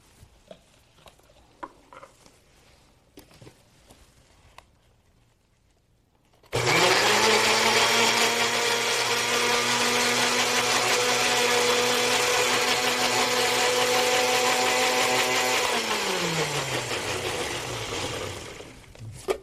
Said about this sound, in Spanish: Ponemos piña, ponemos menta fresca, un puñito de menta fresca. Y ponemos una rodaja de jengibre. Y un poquito de agua. Un poco de agua. Y licuamos.